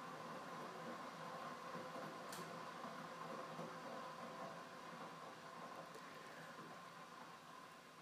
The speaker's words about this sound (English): And just be aware of the sounds of the train, any sounds outside, and just allow them to be there in your awareness.